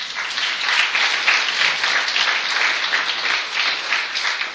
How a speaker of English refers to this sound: Applause is greatly appreciated.